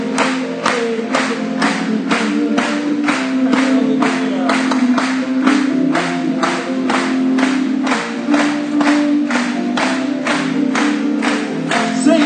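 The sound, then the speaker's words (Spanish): An audience claps together in a steady, even rhythm of about two claps per second, loud and continuous throughout, over a sustained low hum of voices. “Aplaudámosle una vez más.”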